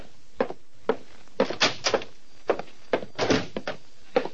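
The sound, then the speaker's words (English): A heavy oak door is handled: a quick series of solid clunks and thuds as the latch rattles and the door swings open and shuts, with no voices. “The buzzer sounded, and Titus Wolfe, secretary to Vincent DeWitt, nodded toward the heavy oak door.”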